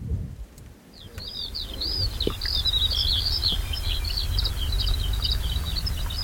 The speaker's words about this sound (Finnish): Sateisella suviseura-alueella on tänään kaikunut peltoaukealla pesivien lintujen sirkutus. Söderfjärdenin peltoalue on monille lintulajeille tärkeä pesintäalue.